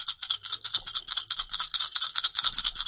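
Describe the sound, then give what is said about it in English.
Seven dice rattle steadily as they are shaken, a fast, even run of bright, hissy clatters that keeps going for the whole stretch without a pause and with no voices. “I don't want to stop shaking them.”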